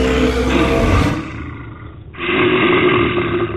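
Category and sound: animal, grizzly bear roar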